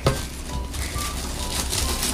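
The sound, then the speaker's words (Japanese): Plates being picked up and handled, with a sharp clack at the start followed by a steady run of soft scraping and clattering, and no voices. “はい、じゃあお皿をとまたさっきみたいに取ってください。”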